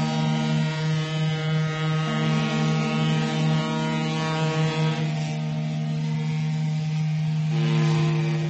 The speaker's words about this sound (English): Once again, the harbors of Port Said and Port Suez resound to the whistles and sounds of passing ships, for the broken link has been restored.